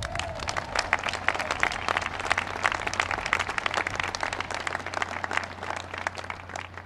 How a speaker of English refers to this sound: And I know you couldn't have made it without the love and support of your moms and dads and brothers and sisters and grandmas, grandpas, aunts, uncles, cousins, so give them all a big round of applause.